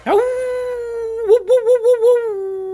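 A dog lets out one long, loud howl in a park, rising at the start, then wavering in quick whimpering pulses before settling into a steady tone. No one speaks.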